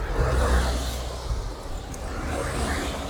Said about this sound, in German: Kommt wieder ein Auto.